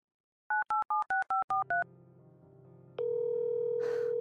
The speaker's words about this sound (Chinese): 您先等等，我给他打个电话，看看他在哪里。